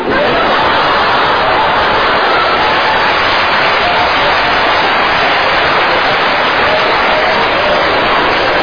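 An audience claps steadily and densely for several seconds, a loud continuous wash of many hands with no pauses and no voices rising above it.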